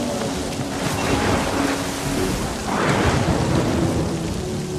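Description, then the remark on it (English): Steady heavy rain hisses throughout while a deep roll of thunder swells up around the middle and rumbles on, with no voices. “Storm probably took the towers down.”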